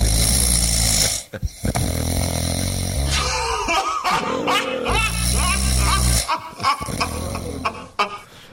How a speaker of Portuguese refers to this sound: Ah, gostei desse roncador aí, viu?